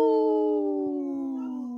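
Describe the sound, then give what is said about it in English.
Wendy the dog lets out one long, sustained howl in the background of a radio show, its clear tone sliding slowly downward in pitch over nearly two seconds, with no talking over it. “We heard Wendy in the background there howling.”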